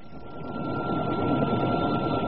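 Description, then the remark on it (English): A helicopter taking off, its dense, steady mechanical roar swelling slightly louder over a couple of seconds, with no voices. “Now, we really must pop in the helicopter and be on our way.”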